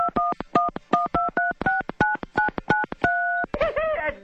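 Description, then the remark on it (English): Rapid sequence of cell phone keypad beeps played like a little melody, the dual tones stepping up and down in a quick rhythm, ending on a longer held tone and a brief warbling flourish. “Yeah, and I told you my phone was a piano.”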